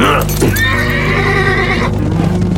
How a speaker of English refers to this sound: She waited until the sound of hoofbeats could no longer be heard before she raised her head.